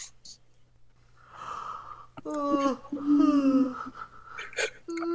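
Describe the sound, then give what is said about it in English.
A drawn-out yawn: a breathy intake swells into a long voiced groan that slides downward in pitch, then trails off into a few softer breathy sounds. “Oh god, everyone is sleepy. Everyone's yawning.”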